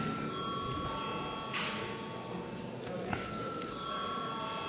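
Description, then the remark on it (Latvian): A steady electric bell rings continuously during a parliamentary session, called for before a vote on a bill, holding an even, high metallic tone throughout, with faint murmur and a brief shuffle or clatter in the background. “Paldies, lūdzu zvanu.”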